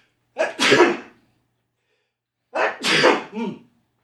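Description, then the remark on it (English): Two loud sneezes about two seconds apart, each a sharp breathy burst, with silence between them and no talking. “excuse me, I'm going to sneeze.”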